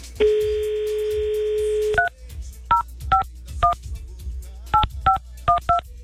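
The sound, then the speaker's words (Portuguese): A steady telephone dial tone hums for about two seconds, then cuts off into a quick series of short, crisp keypad beeps as a massage parlor's number is dialed, each a separate dual-pitched tone, pressed in small uneven bursts. “eu duvido você ligar na casa de massagem e pedir uma mulher sem estria.”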